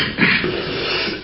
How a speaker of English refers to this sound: Excuse me, my cough today.